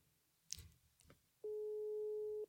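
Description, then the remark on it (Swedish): A couple of soft clicks and handling noises, then a single steady telephone ringback tone sounds for about a second, clear, as an outgoing phone call to a woman starts to ring. “Ska vi ringa och fråga henne?”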